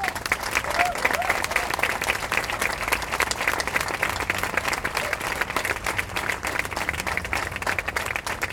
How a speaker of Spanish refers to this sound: están acá presentes, y yo quiero que le demos un muy fuerte aplauso